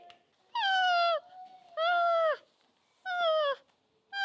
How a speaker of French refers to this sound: Ils s'apprêtaient à repartir lorsqu'ils entendirent le loup pleurer comme un gros bébé.